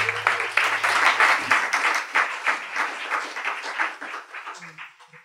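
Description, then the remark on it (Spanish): An audience applauds an artist who has just been introduced, with dense, crackling claps that hold steady and loud for a few seconds, then gradually thin out and fade as the clapping dies down. “Un fuerte aplaudimiento, si es plau,”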